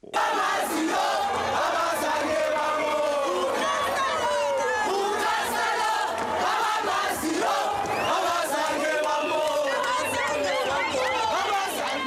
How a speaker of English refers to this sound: And they arrived home to a warm welcome at O.R. Tambo International Airport near Johannesburg. Let's listen in now to a sampling of the cheering, chanting, and singing in the airport terminal.